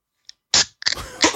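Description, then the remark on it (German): A Krombacher beer can opens: a faint click, then a sharp pop with a short hiss, followed by crackling, fizzy rustles. No one speaks. “Hör mal, war das ein Krombacher? Es ist ein Krombacher. Da habe ich doch gehört.”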